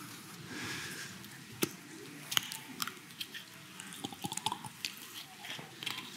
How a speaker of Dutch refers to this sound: Ik neem even een slokje water.